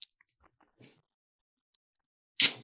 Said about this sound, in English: There we go. That's a pretty clean pop. Mm-hmm. I like that. Yeah. A lot of fizz.